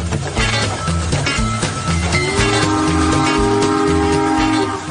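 A train rumbles along with a steady, rhythmic clatter of wheels on track, then a loud, sustained horn blares prominently over it for the second half.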